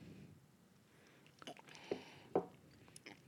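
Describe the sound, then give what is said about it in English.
Quiet sipping of a sour beer: a few soft, wet slurps and lip smacks spaced about half a second apart, with no talking over them. “I'm going to need to do a 3 sips on this one.”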